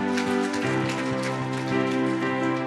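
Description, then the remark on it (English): An entire auditorium audience claps in the morning in a dense, steady wash of applause that runs throughout, with sustained musical tones ringing beneath it and no one speaking. “In fact, so happy that the entire auditorium is going to clap for you this morning.”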